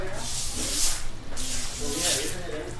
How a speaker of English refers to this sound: Inside the house, family members use brooms to push the last stinking water out the back door.